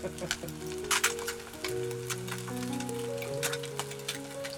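An egg sizzles in a hot pan, with scattered crackling pops and spits bursting over a steady low, droning voice-like tone.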